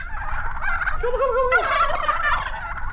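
Several turkeys on a farm gobble at once, their rapid, warbling calls overlapping in a continuous chorus that sounds fairly loud, with no talking.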